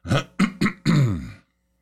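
throat clearing

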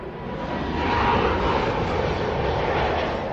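airplane landing

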